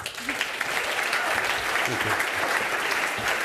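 Steady audience applause, a dense wash of many hands clapping at an even, fairly loud level throughout, with faint murmurs from the crowd underneath.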